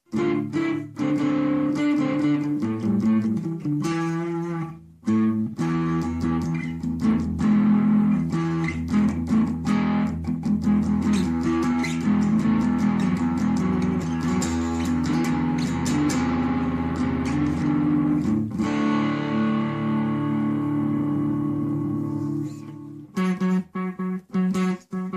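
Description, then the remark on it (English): An electric guitar plays notes and chords through a delay pedal set to smear into a reverb-like wash, the tones ringing and overlapping in a dense, sustained haze, with no talking. “I've had it so that it sounds more like a reverb.”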